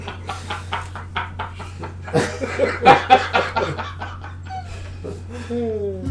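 animal, dog making noises

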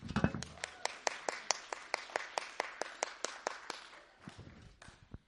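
crowd, round of applause

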